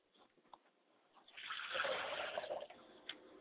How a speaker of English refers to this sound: I pour libations to my Father's spirit, and I say, Ashe, Father.